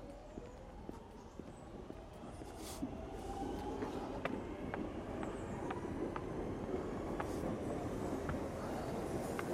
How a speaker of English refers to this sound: I think there's a train coming in. Now you can hear the tracks vibrating. So another bridge. I think the train just pulled up. There we go.